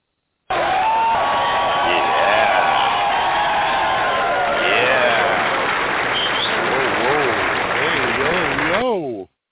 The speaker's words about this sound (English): Listen to that crowd tonight, all wound up. Now they know it's going to be a great radio show.